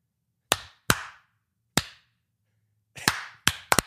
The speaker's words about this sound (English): Stop. That's a count. Stop it. You can't spam it. Can't spam clap.